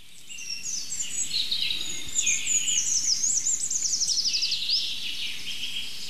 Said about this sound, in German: Jetzt fängt der Buchfink wieder an. Das ist der neue.